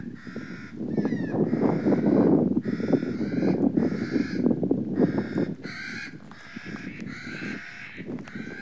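At least six nutcrackers call loudly in alarm on a windy day while another digs for seeds at a cache, a continuous overlapping string of harsh, rasping caws repeated in quick bursts, with a low rumble of wind underneath.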